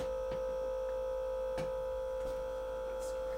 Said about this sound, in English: what is that? That's called? The refrigerator. I can unplug that if that's gonna, that's probably a little loud. Yeah, maybe. I mean, if it's gonna be on for a while.